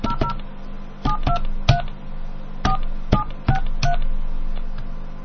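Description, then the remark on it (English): A phone number for Walt Disney Home Entertainment Consumer Relations is keyed in: about nine short, bright touch-tone beeps, each a clipped dual-pitched chirp, tapped in quick irregular clusters over a steady low background hum, with no talking. “That's right, let me call this up here.”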